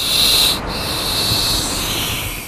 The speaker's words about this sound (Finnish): Se pakenee tai tullessaan pahasti yllätetyksi yrittää pysäyttää vastaan tulijan sihisemällä. Käärme puristaa silloin kaikin voimin ilmaa ulos keuhkoistaan henkitorven läpi.